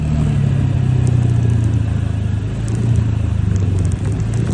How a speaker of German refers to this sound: Ja, das ist der Originalsound von meinem kleinen Roller. Oh, ich werde ganz sentimental, wenn ich daran denke, dass ich den jetzt bald wieder abgeben muss.